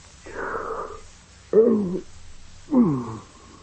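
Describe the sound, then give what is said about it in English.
A long, drawn-out yawn: a breathy, airy stretch followed by two groaning, voiced bursts that waver in pitch, loud against a quiet background with no talking. “Another yawn coming.”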